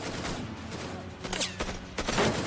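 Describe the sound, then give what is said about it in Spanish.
A burst of gunfire as SWAT team members open fire on a gunman: several sharp shots crack in quick, irregular succession over a steady noisy background. “Los miembros de SWAT abren fuego.”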